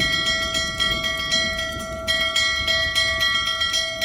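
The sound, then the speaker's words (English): A joyful bell rings steadily and continuously at a castle, its bright metallic tones sustained throughout, over a constant wash of heavy monsoon rain, summoning Governor Coyette to the castle ramparts on November 6th, 1661. No one speaks. “Then on November 6th, 1661, during a heavy monsoon rain, a joyful bell summons Governor Coyette to the castle ramparts.”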